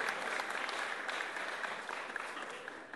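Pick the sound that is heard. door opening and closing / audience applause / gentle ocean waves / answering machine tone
audience applause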